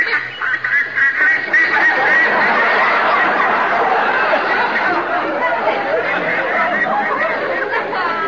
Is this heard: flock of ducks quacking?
yes